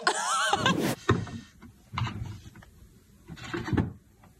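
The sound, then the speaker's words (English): A moose scrapes and rubs against chairs in a Wyoming backyard in several rough, grinding bursts, with a brief creaking squeal at the start and short pauses between the scrapes. “Is there a reason you're tearing up my chairs?”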